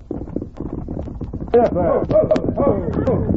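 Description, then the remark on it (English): Horse hooves clip-clop in a steady, uneven rhythm as a rider approaches along a trail, growing a bit louder partway through, mixed with voices talking over them. “Get off that horse.”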